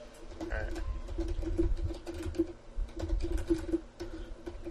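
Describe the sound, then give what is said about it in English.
Quick, irregular clicks of someone typing a message on a computer keyboard, over a steady low hum and faint murmuring in the background. “I'm typing to him.”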